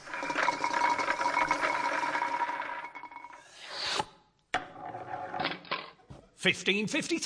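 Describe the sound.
A prize wheel whirs and clatters with rapid mechanical ticking for several seconds, then changes tone as it slows. Voices chatter briefly afterward.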